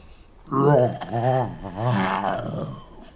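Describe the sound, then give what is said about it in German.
A loud, drawn-out yawning groan voiced by a person imitating a bear in a story, rising and falling in pitch over about three seconds, alone with no other sounds. “Plötzlich gähnte der Bär schrecklich.”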